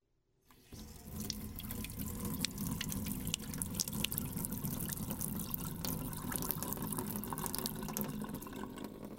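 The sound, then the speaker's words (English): A faucet runs steadily into a sink, fairly loud, with splashy droplet sounds scattered through the continuous flow, the water being slowed down to a drip to keep home pipes from freezing in Kodiak; no one speaks. “You're listening to the sound of running water being slowed down to a drip.”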